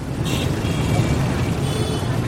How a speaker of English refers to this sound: a ride on the back of a scooter through the buzzing streets of Hanoi, an unexpected cacophony to these Western ears.